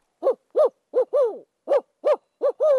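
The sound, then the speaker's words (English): A woman standing among tawny grasses imitates an owl with a string of eight short hooting calls, clear, in quick bursts with a couple of slightly longer, drawn-out notes and no talking. “pauses among tawny grasses to show me her owl call.”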